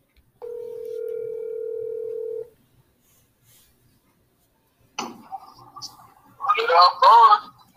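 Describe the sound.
A steady electronic phone ringing tone sounds for about two seconds, then silence, a click and line noise as the call connects, followed by voices talking over a speakerphone.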